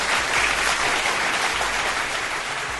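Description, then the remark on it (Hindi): Loud, sustained applause from a crowd for the news that Tatkal train tickets will now get a full refund when the train runs late, dense and steady clapping filling the whole stretch with no voices standing out. “तो इसके लिए जोरदार तालियां।”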